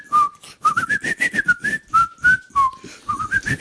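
A person whistles a tune, a string of clear, bright notes rising and falling in a steady melodic phrase, with short breaths between some notes and no talking.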